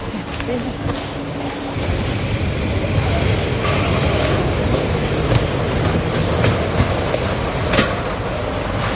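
A metro train rumbles through an underground station in Germany, a loud steady roar with rhythmic wheel clatter and occasional sharp clicks, faint murmuring voices mixed into the echoing background.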